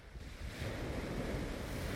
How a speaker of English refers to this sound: Let me do some sea sounds. The sea, eventually, I'm gonna show you the sea.